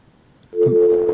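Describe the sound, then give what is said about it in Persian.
A steady electronic telephone tone cuts in abruptly after a short quiet stretch and holds at a constant pitch as a listener's call to a radio phone-in drops. “تماسشان قطع شد متاسفانه.”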